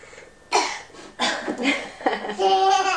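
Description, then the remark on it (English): A young girl gives a few deliberate, playful coughs, three or four raspy bursts spaced unevenly, the last ones trailing into a higher, voiced, almost giggly sound. “And what do you do if you cough?”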